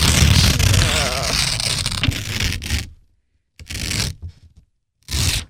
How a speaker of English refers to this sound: if you'll open up the envelope and tell us the moral of today's show. Oh, it's so cute on this Easter paper.